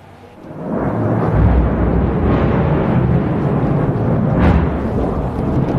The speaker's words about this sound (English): And a short time later, we heard this massive strike. The Israeli army says it's targeting Hezbollah, not the Lebanese people.